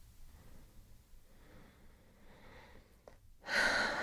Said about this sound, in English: Like right now, I feel like I'm taking very short breaths. That's probably because we've been doing all the stretching, but just settle in.